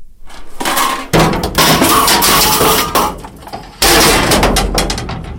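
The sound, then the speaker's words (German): Loud crashes of scrap metal and old iron being thrown by people into a large metal skip at the municipal works yard in Aarau, Switzerland, with sharp impacts and rattling clatter in several bursts, the clanging ringing on between throws. “Es klopft und schädert, wenn die Leute ihr Alteisen in die Mulde schiessen.”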